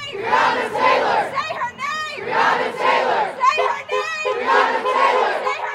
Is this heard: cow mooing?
no